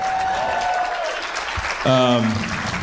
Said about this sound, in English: It's amazing that people clap for that. It's magical.